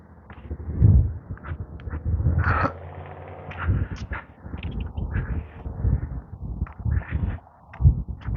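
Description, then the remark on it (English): Birds chirp intermittently in the background, short scattered calls over a steady outdoor rustle of wind and movement, with no one talking. “Birds, birds, birds. Chirp, chirp, chirp.”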